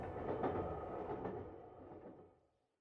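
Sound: train running on rails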